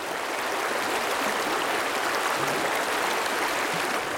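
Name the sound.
flowing river water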